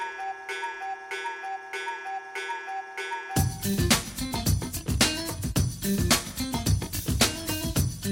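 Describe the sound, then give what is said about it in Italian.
A steady clock ticking opens over a soft sustained tone for about three seconds, then a loud, full band of music bursts in, with rhythmic ticks carrying on beneath it. “prima di iniziare una occhiata all'orologio la voglio dare, giusto per segnalare che è scoccata l'ora di mille storie”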